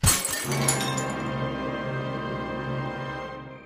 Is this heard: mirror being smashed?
yes